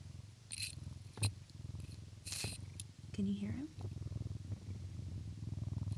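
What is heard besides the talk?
cat purring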